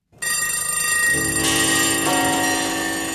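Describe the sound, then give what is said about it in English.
Many clocks chime and ring at once in a loud, dense cascade of overlapping bell tones that starts abruptly and keeps sustaining, with no voices present. “Here we go, ticking away the moments that make up a dull day.”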